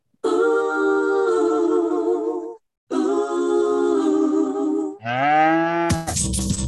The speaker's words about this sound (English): I love the lady singing there at the beginning too. When I first heard that singing, it sounded like they were saying "moo." So I ran with it.